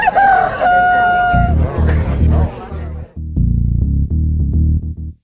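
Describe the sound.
A rooster crows once, loud, its strained harmonic call rising and falling for over a second, introducing the segment Fala Foca e Canta Galo of the show Você Online; then a steady low-pitched voice starts talking and continues through the rest.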